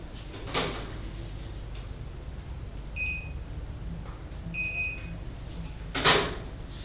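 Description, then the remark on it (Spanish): A door shuts with a sharp knock near the start, then two brief electronic beeps, then a louder door bang near the end, over a quiet room hum with no talking. “Cierras la puerta, que así cabrón.”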